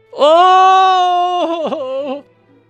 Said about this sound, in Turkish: Kuryetin muayene eder. Zangoç acıyla bağırır.